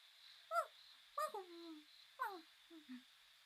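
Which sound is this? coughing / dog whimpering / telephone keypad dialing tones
dog whimpering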